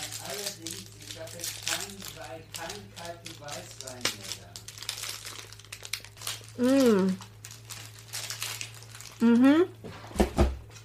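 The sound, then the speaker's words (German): Kilian und Klose chocolate packaging crinkles and crackles in bursts of bright, papery rustling as it is unwrapped, while people talk over it throughout. “Wow, die Kilian und Klose, die sieht ja auch schon in der Packung adrett aus.”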